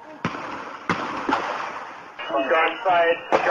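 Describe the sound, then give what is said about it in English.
Gunfire crackles out in a few sharp, irregular shots, spaced about a second apart, over a noisy outdoor background with muffled voices, during a shootout between police and suspects by two cars on Laurel Street in Watertown, around 12:45 in the morning. “I saw the cop shooting from here, and I saw the guys down there by the two cars shooting back”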